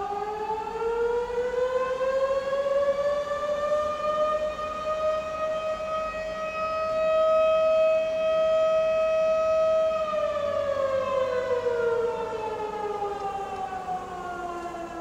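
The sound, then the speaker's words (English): A noontime whistle siren sounds at about noon, wailing steadily, rising in pitch at the start, holding a long sustained tone, then sliding back down as it winds down. It sounds loud and continuous, with no voices. “So that's our noontime whistle.”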